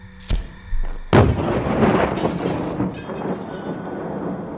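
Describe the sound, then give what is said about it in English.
A sharp blast cracks out, then a second, heavier explosion bursts loud and is followed by several seconds of roaring, crackling rumble and debris as it slowly fades: a 13-kilo gas canister explodes at 8:25 a.m., destroying a small caravan at Frenchall Farm in a fireball. “At 8:25 a.m., an explosion ripped through Frenchall Farm as the little caravan erupted in a fireball of tangled metal, buckled frames, and flying glass shards, as beyond its flaming curtains, smoke billowed.”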